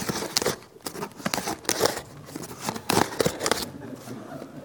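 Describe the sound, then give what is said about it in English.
Rough, rasping scratches drag across a rough wooden cubicle door in a series of uneven strokes, some sharper and louder than others, with no voices over them. “Scratching on the rough wooden door.”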